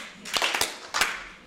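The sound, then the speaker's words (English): A group claps together in a handful of sharp, slightly smeared bursts, unevenly spaced over a steady hiss of background noise, with no talking, as the audience claps once in answer to a leader's single clap. “When I clap once, you clap once.”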